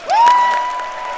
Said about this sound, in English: The president is now been announced. He will enter the chamber, as he always does, to a round of applause by members of both chambers of Congress.